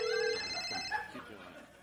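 A telephone rings with a bright, steady electronic tone held for about a second, then trails off as faint voices murmur in the background.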